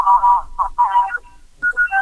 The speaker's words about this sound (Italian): Ce la fai sentire? Ce la fai sentire con il clacson la tua Smart? Ce la fai sentire?